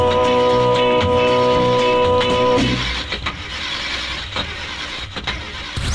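car engine starting

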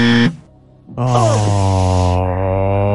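quiz game buzzer

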